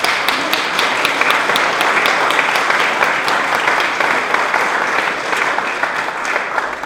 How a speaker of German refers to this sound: Ja, und jetzt möchte ich noch was in eigener Sache, und ich glaube, ich kann die Gemeinde da mit einstimmen, dass wir all den Sängerinnen mal ordentlichen Beifall geben, ne?